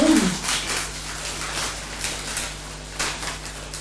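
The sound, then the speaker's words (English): A short, falling whimper from a dog opens the moment, followed by soft shuffling and rustling as it shifts around, with a low steady hum underneath. “A nice dog.”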